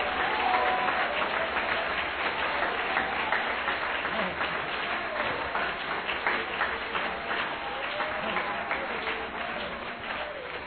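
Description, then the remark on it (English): A large crowd claps continuously, dense overlapping handclaps filling the whole stretch at a steady, fairly loud level, with faint voices mixed in underneath. “I want every able-bodied person to clap their hands right now.”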